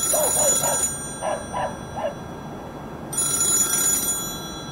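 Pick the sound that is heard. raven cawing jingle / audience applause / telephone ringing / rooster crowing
telephone ringing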